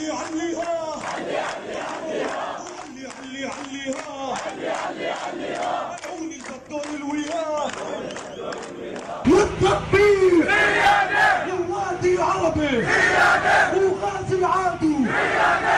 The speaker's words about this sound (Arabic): من أمام المسجد الحسيني في العاصمة انطلقت المسيرة الغاضبة، لم تهدأ حناجر المتضامنين الذين لبوا نداء الأقصى واستغاثته، والمدينة احتضنت بين تلالها السبع هتافات المؤازرة للمرابطين والمرابطات.